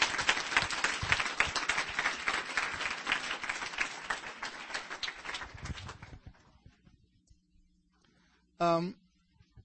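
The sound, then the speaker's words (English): An audience bursts into loud, sustained applause for about six seconds, then the clapping fades out, followed by a short voiced cry near the end. “Clap. Clap to a creator.”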